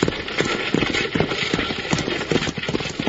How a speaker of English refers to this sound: These horses are running away!